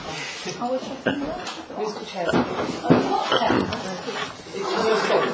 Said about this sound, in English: He did close the door.